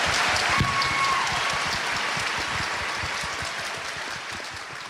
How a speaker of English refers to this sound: We are so grateful that all of you have come here today to share your insights with this crowd. Please, everyone, give our panel a round of applause.